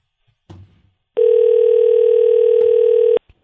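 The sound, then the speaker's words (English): After a brief clatter, a steady electronic telephone ringing tone sounds for about two seconds at a constant pitch. It is loud, as a phone call to someone's wife waits to connect. “It's ringing.”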